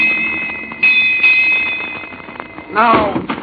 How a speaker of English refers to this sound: Just 15 minutes to go. Huh? Here come the bells. Now.